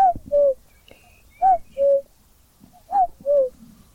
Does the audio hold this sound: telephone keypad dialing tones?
no